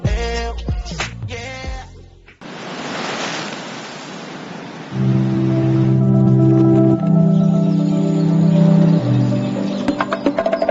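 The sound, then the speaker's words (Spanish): A steady rush of ocean surf washes onto a beach in the Dominican Republic after a short burst of musical tones, then continues beneath loud, sustained droning tones that layer over the waves. “Playas donde solo escuchas tu eco. Mar. Surf.”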